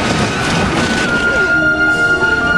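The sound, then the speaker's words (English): A sedan skids out of control, spins sideways and slams into a snowbank with a loud, dense rush of crunching noise that fills the first second and a half, then gives way to a steady, ringing tone that lingers. “Catherine huddles against Terry as the car spins sideways and slams into a snowbank.”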